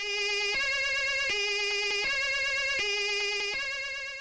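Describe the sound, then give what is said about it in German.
A loud emergency vehicle siren alternates steadily between two tones, high and low, in a regular see-saw rhythm, with no voices. “Genau, Tatütata, aber nicht das Martinshorn, sondern das dazugehörige Blaulicht.”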